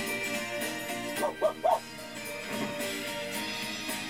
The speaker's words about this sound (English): He's a real cute dog and friendly to boot.